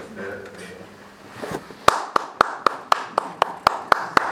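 After a brief stretch of voices, an audience starts clapping: about ten sharp, evenly spaced claps in a steady, brisk rhythm, loud and crisp, lasting to the end.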